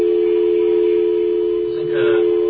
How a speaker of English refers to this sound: Okay, there's really something bizarre going on with our phones. Now I'm going to play that dial tone again. And you hear this noise?